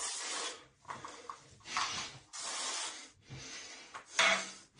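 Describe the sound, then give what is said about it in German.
Scratchy rubbing in about five quick back-and-forth strokes as someone wipes a fogged-up camera lens, with short pauses between passes and no voices. “Kannst du mal über die Kameralinse wischen? Ich glaube, die ist etwas beschlagen.”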